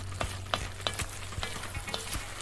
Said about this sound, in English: Add the flour, stir, keep stirring. You don't want that flour to burn. We'll add the garlic. And keep stirring that. And make sure that flour doesn't stick. It's really hot right now. That flour will brown on you really quick.